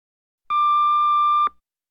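A single steady electronic beep, like an answering machine tone, holds one clear pitch for about a second and then cuts off, loud with silence on either side.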